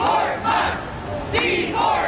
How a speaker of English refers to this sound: Protesters at a rally in Tampa, Florida, against the Musk mass firings.